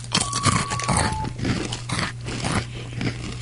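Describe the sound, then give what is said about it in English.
Repeated crisp crunching of a dark chocolate-covered quinoa snack being chewed, with brisk irregular bites over a steady low hum and a faint tonal whine early on. “It's a dark chocolate-covered quinoa.”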